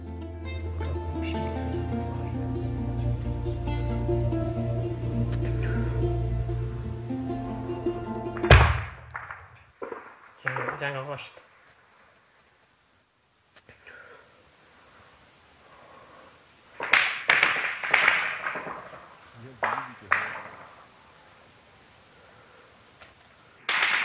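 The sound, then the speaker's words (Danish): Scattered gunshots from fighting, heard in a back garden, crack out in irregular bursts: a sharp bang and a quick cluster, then a pause before another flurry of shots. A steady, droning tonal hum fills the opening seconds. Recorded on a small camera phone by a man filming himself at home. “Jamen, det er lyd af skud, og det er et klip, hvor en af de medvirkende, han sidder hjemme hos sig selv, og han filmer sig selv, mens altså, han er tydeligt skræmt, fordi at der foregår kampe”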